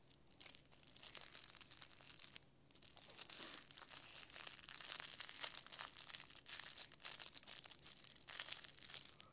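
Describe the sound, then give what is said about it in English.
The crinkly yellow fabric ear of a pink elephant toy being squeezed and rubbed, making a steady stream of dry, papery crackles and rustles that rise and fall in bursts for several seconds, with no voices. “You hear that? The elephant's ear is really crinkly.”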